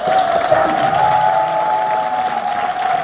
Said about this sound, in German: Und deswegen auch noch einen kräftigen Applaus.